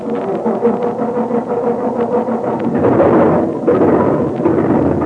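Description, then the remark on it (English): A truck motor turns over and runs with a steady low rumble, then swells louder about halfway through as it revs, with no voices. “Yeah, and start that motor.”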